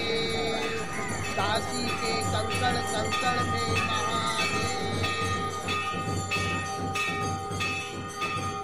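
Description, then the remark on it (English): Prayer bells in India clang steadily and repeatedly, their strikes overlapping into a dense, continuous ringing with sustained metallic tones over a busy, rumbling background. “These prayer bells, recorded in India, remind me that giving us pleasure is not the only thing that music does for us.”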